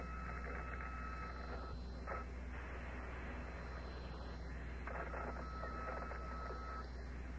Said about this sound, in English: That static and whistle the astronauts on the surface of the moon can hear also.